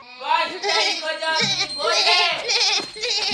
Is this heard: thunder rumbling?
no